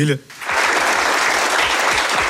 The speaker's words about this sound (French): Applaudissements des journalistes présents dans la salle.